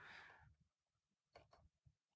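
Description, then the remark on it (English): A brief hissy rustle, then two quick, sharp clicks of keys being pressed on a computer keyboard, fairly quiet over a low background rumble. The keyboard is now connected to a Windows virtual machine. “I'm pressing a button on this keyboard is not being accepted by the terminal anymore, because this keyboard is now connected to the Windows virtual machine.”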